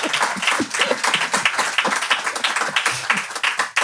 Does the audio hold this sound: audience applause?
yes